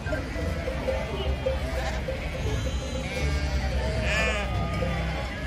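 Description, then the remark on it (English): Sheep brought into the streets at a peaceful protest, outside what seems to be a government building with police around, bleat amid a steady outdoor murmur. One clear, wavering bleat stands out near the end, with fainter calls blending into the background noise. “And even employing sheep in Dragonia.”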